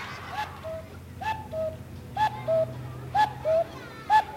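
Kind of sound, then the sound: bird, owl hooting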